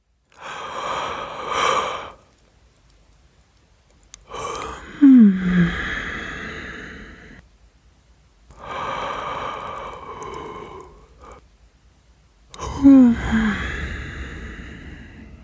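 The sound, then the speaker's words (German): Four long, deep yawning breaths in a breathing exercise alternate between drawn-out inhalations and sighing exhalations, each rising with a slight vocal groan at its peak, unhurried with pauses of silence between them. “Vielleicht spürst du, wie sich die Einatmung etwas vertieft.”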